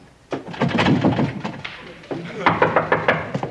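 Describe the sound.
A quick run of about half a dozen firm knocks on a wooden door, evenly spaced, while voices talk over and around them.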